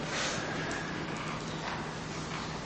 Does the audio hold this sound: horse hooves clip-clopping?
yes